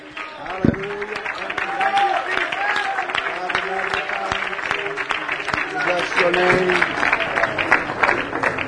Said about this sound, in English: One more time, would you give the Lord a hand clap of praise? Come on, lift your voice.